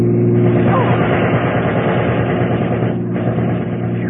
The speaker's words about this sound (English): I don't feel like playing target for that thug with a machine gun anymore